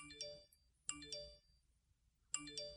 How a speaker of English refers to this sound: That's just... That's what my phone sounds like, 24/7.